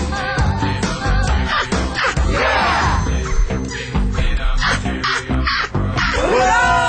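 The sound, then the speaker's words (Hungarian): Harsh, raspy seagull calls repeat loudly for several seconds, overlapping one another with rising, squealing cries standing out in places. “Ez a döglet sirály, nem?”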